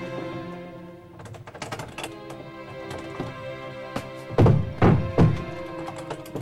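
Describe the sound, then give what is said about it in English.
A door in a semi-lit corridor of an apartment building is forced open at night with a pocket knife: a run of small metallic clicks and taps, followed by three or four heavier, louder thunks as the door gives way. No one speaks. “He pulls out a pocket knife and forces the door.”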